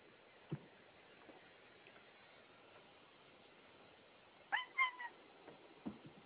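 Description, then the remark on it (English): A cat meows once, a short, clear, slightly wavering call, set against a quiet background hiss with a few faint knocks before and after. “No, kitty cat.”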